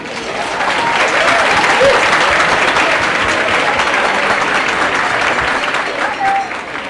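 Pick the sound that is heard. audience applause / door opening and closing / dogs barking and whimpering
audience applause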